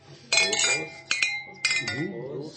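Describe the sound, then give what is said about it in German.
Milk glasses clink together three times in a toast at a milk bar, each sharp ring lingering briefly, fairly loud, with people's voices murmuring underneath. “Und wir haben hier unser eigenes Synchronisierungsgeräusch. Prost, Prost.”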